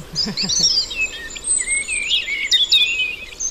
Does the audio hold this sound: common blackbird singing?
yes